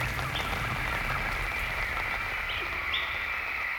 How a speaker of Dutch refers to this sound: Meestal duurt zo'n regenbui niet heel erg lang. Maar we hoeven in elk geval vandaag niet meer te douchen.